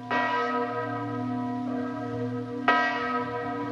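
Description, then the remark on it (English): The great bells of Chartres cathedral toll the Angelus on a rainy evening, each deep strike blooming with rich overtones that hang and overlap; a fresh loud stroke lands near the end over the lingering hum. No voices. “On a rainy evening, the great bells of Chartres ring out the Angelus.”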